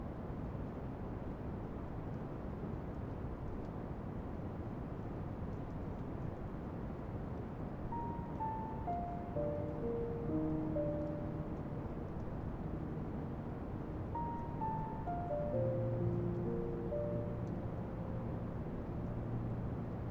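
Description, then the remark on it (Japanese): Rain falls in a steady, even hiss throughout, while two soft runs of descending, chime-like notes drift over it. No one speaks. “雨だ。”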